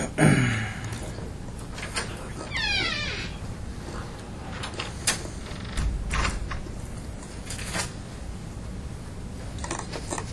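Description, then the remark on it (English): A door creaks open in a long, drawn-out groan with a few rising squeaky sweeps, along with scattered clicks and rattles of the mechanism and no talking. “And your door is open.”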